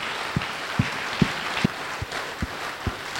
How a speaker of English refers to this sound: Clap for the Lord for the thanks and praise giving.